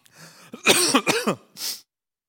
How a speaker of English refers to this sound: I've got a cough.